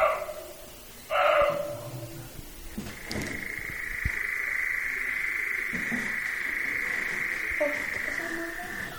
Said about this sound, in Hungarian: Ez a nagyon fura hang, és egy madáré, ő a lappantyú, őt ritkábban láthatjuk, egyrészt azért, mert rejtőzködő életmódot folytat, amiben az is beletartozik, hogy a faágon nem keresztben ül, mint más madarak, hanem hosszában